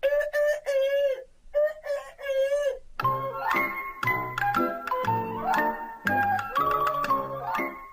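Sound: rooster crowing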